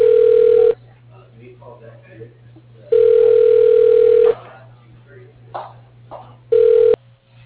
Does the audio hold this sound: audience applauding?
no